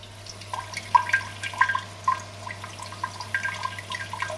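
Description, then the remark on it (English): A Japanese bidet toilet's warm water spray, started with the rear wash button, hisses and patters steadily in a bathroom, with irregular little splashes and a constant low electrical hum underneath; no one speaks. “You can hear the water spraying.”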